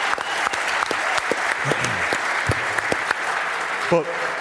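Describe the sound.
Steady applause for footballer Stevie McDonald fills the whole stretch, a dense wash of many hands clapping at a constant level, with a few voices calling out briefly underneath.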